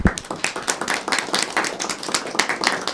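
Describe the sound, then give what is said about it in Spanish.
A crowd applauds the vice president of the Cantonal Council for the Protection of Rights at the council board's accountability report, many hands clapping in a dense, continuous patter of sharp, bright claps that stays fairly loud and even for the whole few seconds, with no voices on top. “y tenemos pues la presencia de la señora vicepresidenta del Consejo Cantonal de Protección de Derechos, a quien le vamos a dar también un fuerte aplauso.”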